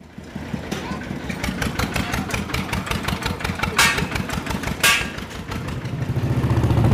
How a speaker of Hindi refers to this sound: मैं इस समय कैराना शहर के बिल्कुल बीच में एक बाज़ार है उससे होकर मोटरसाइकिल में किसी लोकल आदमी के साथ बैठकर सवार होकर गुजर रहा हूँ।